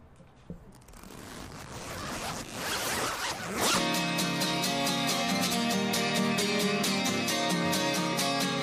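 A zipper being pulled open with a raspy, gritty rasp lasting a few seconds, followed by music starting up with steady rhythmic beats and sustained tones. No one speaks.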